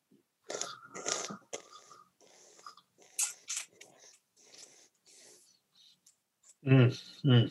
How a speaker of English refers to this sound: So I'm slurping. I'm hissing in air, and again, the flavors are changing right in my mouth as I, and in my, not just my mouth, but up in my sinus cavities as I'm breathing it in.